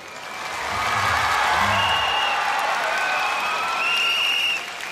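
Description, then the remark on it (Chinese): Warm, sustained audience applause for the singer at the concert 第一回合演唱会 (First Round concert) fills the whole stretch, a dense wash of clapping hands with faint cheering and a few whistle-like tones rising through it, steady and fairly loud before easing slightly at the end. “希望大家再一次俾啲热烈掌声我，好唔好啊？”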